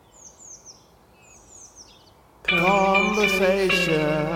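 Soft birdsong of short, repeated descending chirps sounds against a quiet background, then a loud, sustained humming or singing tone suddenly takes over and drowns it out.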